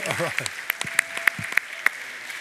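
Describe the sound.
Audience applause for a man who searched for a microphone, sparse and rhythmic: about half a dozen distinct claps at a steady beat over a couple of seconds, preceded by a short voiced cheer or exclamation.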